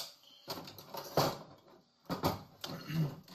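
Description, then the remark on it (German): A kitchen drawer slides and utensils clatter and rattle as someone rummages through it looking for a cooking spoon, with a couple of louder bursts of metallic clinking. “Schaut euch diese Schublade an. Nein. Ich habe keinen Kochlöffel. Also nehmen wir das hier.”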